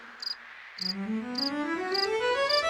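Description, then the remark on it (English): A cricket chirps in short, evenly spaced bursts, about five in a row, bright and steady like a metronome, over a soft rising musical tone. “hear the cricket?”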